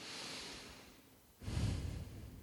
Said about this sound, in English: I'm asking you to focus in on your breathing. I'm going to focus in on my breathing and slow myself down right now.